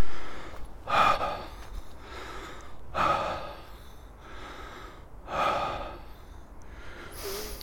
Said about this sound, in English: Spoken by this guy on a walk over the hills, puffing and panting. So forgive me.